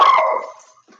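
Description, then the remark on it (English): A single sharp, high-pitched yap from a small dog, loud, fading quickly with a faint second sound trailing after. “You smaller than the, they say the smallest dogs are the toughest ones.”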